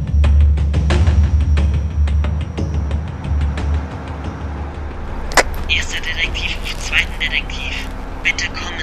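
Two people clamber into a truck over a low idling engine rumble, with a run of metallic clunks and steps, one sharp door slam, then scattered rustling and shuffling.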